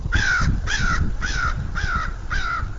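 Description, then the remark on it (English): Five harsh crow caws in a steady, evenly spaced series, fairly loud, over a constant low rumble of wind or background noise, at Horicon Marsh, a wetland frozen over at this time of year. “Horicon Marsh is pretty much frozen over this time of year, leaving mainly crows to rule the local skies.”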